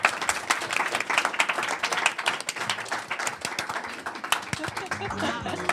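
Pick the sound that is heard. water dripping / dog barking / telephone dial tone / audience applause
audience applause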